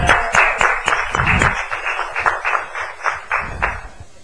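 A crowd applauds steadily in a reverberant room, many hands clapping at once in a dense, continuous patter that holds for several seconds without any voices on top.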